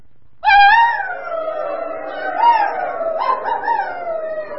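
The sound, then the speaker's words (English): Children and adults howl together, giving thanks in dog-like talk, in a long, wavering chorus, voices sliding in pitch with a few yelping rises, loud, imitating dogs rather than real animals. “I'm going to say in English what we're thankful for, and then we're all going to thank in doggy talk.”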